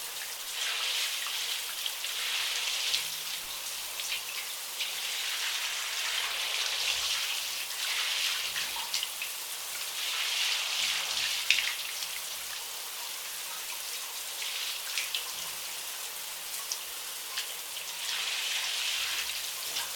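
A shower sprays steadily for the whole stretch, rinsing soap foam off a person's body, a dense hissing patter of water that swells and eases slightly in waves, fairly soft, with no voices.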